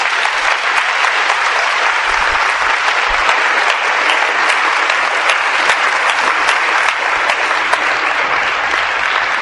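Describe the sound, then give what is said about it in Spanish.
A large audience claps steadily for about nine seconds, a dense, loud, continuous patter of many hands with no voices standing out above it, giving applause to God at the speaker's request. “A ver, los que quieran a Juan Pablo II, denle un aplauso a Dios, por favor.”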